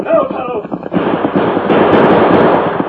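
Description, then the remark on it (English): A loud, rapid volley of gunshots, sharp cracks piling into a dense, crackling barrage that grows thicker and keeps going, with a voice briefly audible at the start. “I never seen such shooting.”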